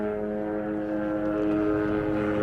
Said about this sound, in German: Jetzt fliegt hier der Helikopter durch, ich hoffe, ihr hört es noch. Wo ist er? Hier eben. Helikopterlandeplatz gibt es hier, gleich um die Ecke.